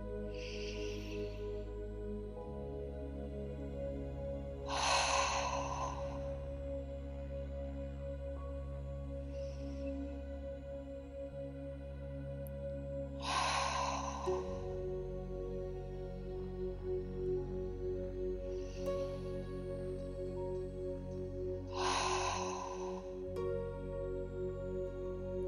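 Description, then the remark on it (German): Three slow, deep breaths in and out, spaced evenly several seconds apart, each a soft rushing exhale, over a calm, sustained musical drone with no talking. “Wir atmen wieder dreimal tief.”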